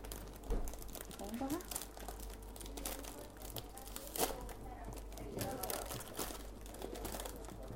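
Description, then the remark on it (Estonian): A paper wrapper crinkles and crackles in irregular bursts as an ice cream is unwrapped by a lake, with soft scattered crunches and brief murmured voices in the background. “Aga jätame paperi juba siia või? Jah. Iskame siia. Iskame siia. Jätan suure auta kord. Oota, ma ei saanud veel lahti.”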